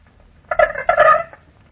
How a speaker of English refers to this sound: Now here is the response of a single male of the species Aedes aegypti, which transmits dengue fever in the southern parts of this country and yellow fever in other regions of the world. He sounds rather like a quail or a partridge.